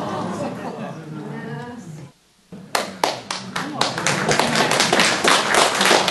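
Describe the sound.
Audience applause bursts out after a brief pause and builds into a steady patter of many hands clapping, loud and continuous to the end. A voice is heard talking beforehand.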